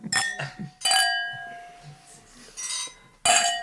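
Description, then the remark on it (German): Glasses clink together four or five times in a remote toast, each strike bright with a clear ringing tone that lingers, separated by short pauses and faint murmuring voices. “Das ist mal so ein Fernprost, ne? Teleprost.”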